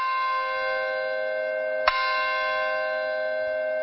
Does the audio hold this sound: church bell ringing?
yes